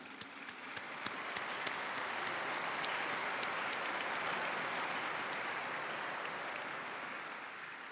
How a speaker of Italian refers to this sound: Alle due beate un applauso tutti insieme.